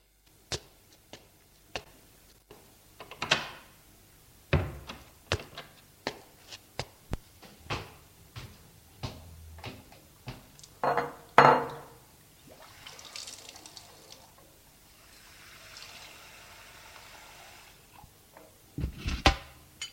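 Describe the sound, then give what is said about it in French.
Kitchen sounds of tea being prepared: scattered clinks and knocks of cups and cupboards, with a stretch of running, splashing water in the middle, and no one speaking. “Il se retire de la fenêtre et sort de son bureau pour aller dans sa cuisine pour se préparer du thé.”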